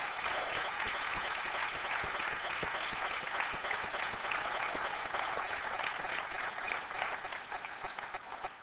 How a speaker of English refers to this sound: Can we give the Lord Jesus Christ a great big hand clap of praise this morning?